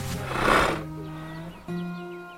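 A horse named Griff gives a loud, breathy snort, followed by a low, drawn-out rumbling whinny that pauses briefly and resumes, with faint chirps in the background.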